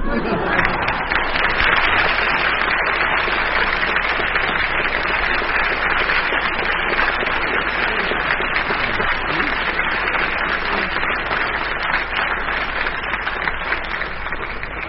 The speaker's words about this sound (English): Well, anybody think you liked income tax, because by your applause, I think Dennis's story wins, so he gets the mark.